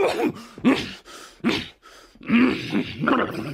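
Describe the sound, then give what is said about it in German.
A voice actor in a radio play imitates a dragon landing and sneezing using only his voice: a series of rough, growling vocal bursts and snorts, a sharp burst near the middle, then a longer, louder rumbling stretch to the end. “hat in einem Hörspiel mal einen Drachen zum Landen gebracht und ihn gleichzeitig niesen lassen. Nur mit der Stimme.”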